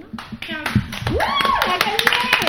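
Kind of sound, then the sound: crowd, group applause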